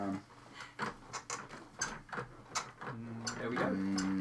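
A rocking chair creaks as someone sits in it and leans back and forward: a run of irregular clicks and ticks, then a longer, sustained, squeaky groan near the end.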